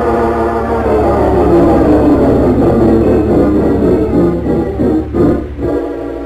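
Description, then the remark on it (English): A loud, steady roar of an airplane engine blends with rushing wind at the open doorway of a plane at night as parachutists jump out, continuous throughout, with a brief dip and swell near the end and no voices. “I didn't know if he heard me with a rush of wind and the roar of the plane.”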